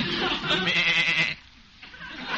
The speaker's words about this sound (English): Patient? Yeah, I'm clipping a sheep. Well, that sheep can wait.